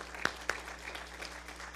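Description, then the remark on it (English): An audience applauds a choir leader for faithful service: a couple of sharp early claps give way to a steady, soft wash of many hands clapping together, with no voices over it. “And so, although he's not here, let's give him a round of applause for faithful service.”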